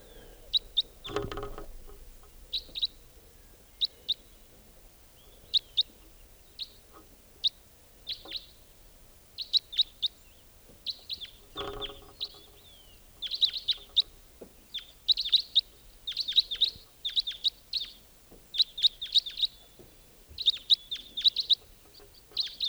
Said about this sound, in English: Wild white-winged crossbill there. Yeah. Recording.